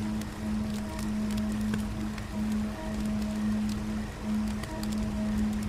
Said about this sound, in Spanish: Parece ser que algún río cercano debe pasar por aquí. y junto a ese sonido de la corriente que fluye constantemente, un alivio en tu interior aparece.